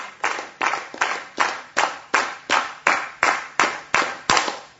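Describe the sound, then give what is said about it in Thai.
An audience at the UN claps together in a steady rhythm, attempting a record of thirteen claps: thirteen sharp, loud unison claps evenly spaced about a third of a second apart, with no talking in between. “โอ้ตบมือให้ตัวเองเลยค่ะเยี่ยมมากเลย”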